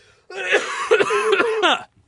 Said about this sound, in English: And I'm gonna fucking cough again.